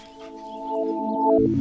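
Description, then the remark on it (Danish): A dog named Fido whines in a long, steady, high-pitched whimper lasting over a second, fairly loud, ending in a brief rougher sound. No one speaks. “Ja, det her er den søde hund Fido.”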